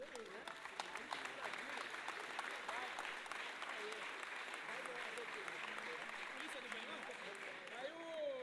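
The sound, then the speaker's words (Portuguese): A crowd claps steadily and densely for several seconds for the Paideia group, a sustained wash of applause with scattered voices and cheers rising through it. “Tem um aplaudir o pessoal da Paideia que tá aqui já.”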